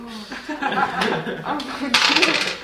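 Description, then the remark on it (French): Dice clatter and rattle across a hard surface in a quick burst of sharp clicks near the end as students play a board game, with soft chuckling and murmured voices in the background. “Vous allez tout simplement jouer avec le nombre de dés indiqué sur votre carte.”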